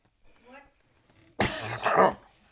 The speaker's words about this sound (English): Don't worry, you can cough all you want. They just cut it out, that's all.